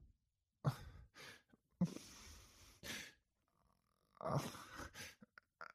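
Heavy, angry snorting and panting up close, a handful of loud breathy huffs and exhalations in an uneven rhythm, some with a groaning, sigh-like edge, with no talking.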